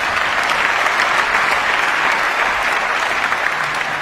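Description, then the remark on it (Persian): Sustained, dense applause from a large standing audience in a concert hall after a piano performance, a steady wash of many hands clapping at once with no pauses, loud and even throughout, with no talking. “کل جمعیت 10 دقیقه سرپا داشتن تشویقش میکردن.”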